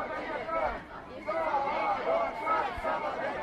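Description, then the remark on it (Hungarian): A crowd of about 300 students in a street protest, off Üllői út heading toward the Szabadság híd, chants the slogan "Szabad ország, szabad egyetem" (free country, free university) together, the shouted phrases rising and falling in a loose rhythm over a constant murmur of many people. “Ugye Szabad ország, szabad egyetem, skandalásokat lehet hallani.”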